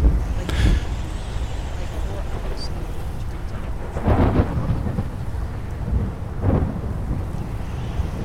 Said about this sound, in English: Outside, the wind is tugging at the sky and there is a great storm. So much thunder and lightning, I've hardly slept.